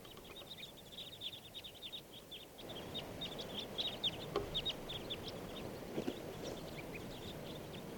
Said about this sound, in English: Here's a huge flock of crossbills. 25 birds. Come on.